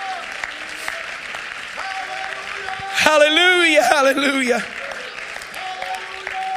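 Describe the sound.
An audience claps steadily throughout to thank God for his forgiving power, a dense wash of hand claps, while a voice exclaims loudly and melodically over the applause in the middle.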